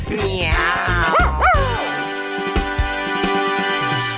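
A dog gives a few high-pitched yipping barks in the first two seconds, followed by a steady tonal hum with light tapping in the background.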